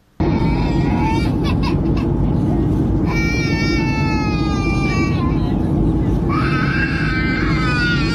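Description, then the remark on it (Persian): A baby wails in long, rising cries during a flight over a constant loud low rumble of aircraft cabin noise, with short gaps between the cries. “ویدئوهای پرشمار در شبکه‌های اجتماعی منتشر شده که نارضایتی برخی از مسافران را از گریه کودکان در هنگام پرواز نشان می دهد.”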